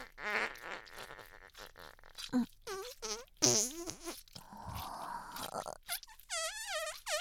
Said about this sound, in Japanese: なに？臭い？そうだね。おならだもんね。